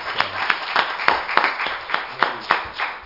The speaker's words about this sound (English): Let's praise the Lord. Let's give Him a hand clap of praise.